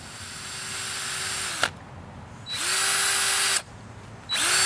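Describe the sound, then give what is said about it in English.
A power drill whirs in three bursts as holes are drilled into a fresh, hard red oak log, each spinning up with a rising whine, running steadily for about a second, then stopping abruptly with brief quiet gaps between runs; loud, no voices. “So the first step is drilling some holes in the log.”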